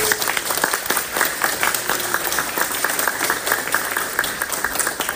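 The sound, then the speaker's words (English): A crowd at a YMCA event applauds the staff and volunteers. Many hands clap in a dense, continuous patter that stays fairly loud and even throughout, with no speech over it. “So if we could please just have a round of applause for staff and volunteers.”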